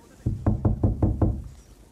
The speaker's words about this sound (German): Hörst du, da wieder. Na ja, da schlägt jemand im Parterre einen Nagel ein. Weiter nischt. Hängt sich ein Bild auf.